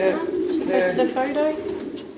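Several racing pigeons coo together in a steady, overlapping chorus of low, throaty warbles, fairly loud, continuing without a break.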